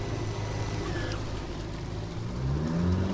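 A motorboat engine drones steadily at a low pitch, then rises in pitch and loudness toward the end as the boat accelerates up onto plane, with a wash of rushing water noise throughout. The boat is on the Mississippi River south of La Crosse, Wisconsin, at a habitat restoration project.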